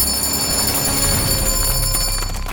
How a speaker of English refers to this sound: One day, 2 years later, Clover and Elsie were surprised to hear Katie's bell ringing loudly.